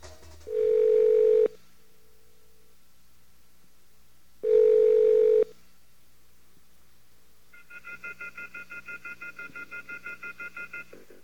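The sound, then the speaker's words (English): A telephone call to the Off the Hook show's newly installed phone line connects with two loud, steady tones separated by a pause, followed by a brisk, rapidly pulsing electronic ring that continues to the end. “Yes, you've reached Off the Hook on the phone.”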